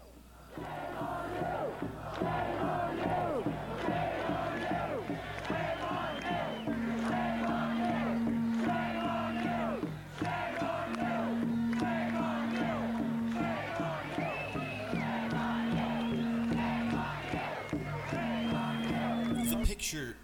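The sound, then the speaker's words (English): A huge protest crowd of hundreds of thousands in Ireland, protesting COVID lockdowns and vaccine passports, chants in unison, a loud, massed roar of voices repeating the same rhythmic phrase again and again over a steady din, with a sustained horn-like tone recurring beneath. “There are hundreds of thousands of people chanting this.”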